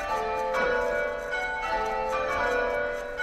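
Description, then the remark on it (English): Church bells ring out steadily, their strikes overlapping in a rich, sustained wash of harmonic tones with fresh peals arriving about once per second. No one speaks. “It's, bells are ringing, oh yeah, I don't have to pay attention, but I should make my way to church now.”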